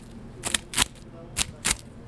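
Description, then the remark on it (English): Four crisp, brittle crunches of a knife cutting a Chicago thin-crust pizza into squares, arriving in two quick pairs with brief pauses between, over a low steady background hum. “Yes, we're going to cut this in squares, but and you can hear the crunch.”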